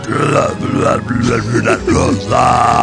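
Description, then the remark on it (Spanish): A child talks in a deep, croaking burp voice while offering a rose for sale, stretching syllables into gurgling belches across nearly three seconds of continuous, loud vocalizing. “Y es que me ofreció la rosa haciendo su voz con eructos, así de”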